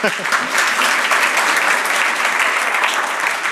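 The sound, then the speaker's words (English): An audience claps steadily for several seconds, a dense crackling wash of many hands that stays loud and even from start to finish, with a brief voice audible at the very beginning. “That's nice that you clap your hands, because I'm doing that from your tax money.”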